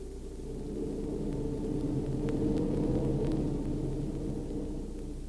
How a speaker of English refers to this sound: Turning to eastward, the Cape winds began. They howled round us as we rose and fell upon long, troubled seas.